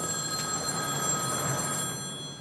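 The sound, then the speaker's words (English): A payphone in front of a Mexican restaurant rings with a steady, continuous bell tone, moderately loud, fading slightly at the end with no voices present. “Sam eyes the nearby payphone, sidesteps awkwardly toward it, and picks it up”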